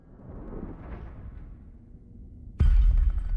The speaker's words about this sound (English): As Meg stretches further, her other arm knocks a lamp off the bedside table.